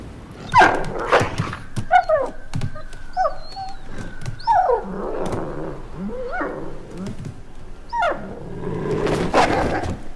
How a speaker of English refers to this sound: So, apparently, quite a lot of people had a sort of big fit over the scene because Ghost was whining, he was barking, and everyone's like, oh, in the books, he's totally silent.